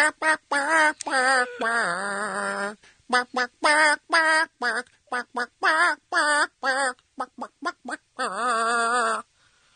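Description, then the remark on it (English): A tune picked out entirely in duck quacks: short nasal honks at shifting pitches, in a steady rhythm with a few longer held notes, loud, with no talking. “Here's your Clucky song. All right. All right. Quack, quack, quack, quack, quack.”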